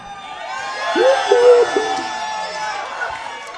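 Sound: crowd cheering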